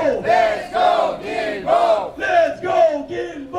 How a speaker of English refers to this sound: Thursday, June 19th, a group of protesters outside the De l'Église station in Verdun were raising awareness about accessibility in the metro system.